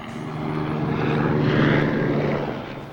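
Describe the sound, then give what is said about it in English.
A helicopter passes overhead, its droning engine and rotor swelling to a loud peak mid-clip and then easing off, a steady, throbbing hum with no voices. “Helicopter.”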